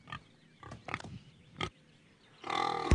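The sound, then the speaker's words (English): A female pig grunts in several short, throaty bursts, followed by a louder, longer snorting squeal at the end. “In terms of time to processing, weight, meat yield, weanability, she's pretty much the perfect pig.”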